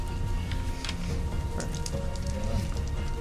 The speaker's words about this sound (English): It's definitely tipping down the rain, but I need you to make me a drive roll.